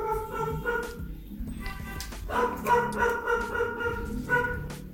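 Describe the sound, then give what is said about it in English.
An angry dog yaps and whines repeatedly, its high-pitched, tonal calls coming in agitated bursts over a noisy outdoor background, growing more insistent in the second half. “I think I might be upsetting that dog.”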